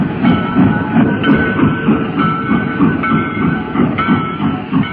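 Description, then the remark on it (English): A funeral train rumbles steadily along the track that leads back home to Paducah, its low wheel noise pulsing in a regular clickety rhythm with faint high metallic whine above, continuous and fairly loud with no voices. “The funeral train on the track that leads back home to Paducah.”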